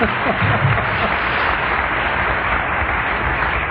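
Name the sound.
audience applause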